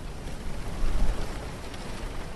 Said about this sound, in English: A wind blows through the dune palm fronds. If you listen hard enough, it sounds almost like rain.